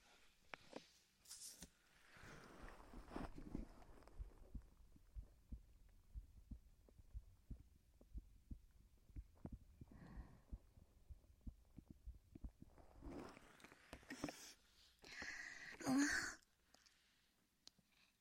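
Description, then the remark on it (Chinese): A woman's soft, steady heartbeat thumps low and muffled as if heard through her chest while held in her embrace, with faint rustling of fabric and a brief breathy sigh near the end; no one speaks. “刚刚在姐姐怀里，是不是听到了姐姐的心跳声？”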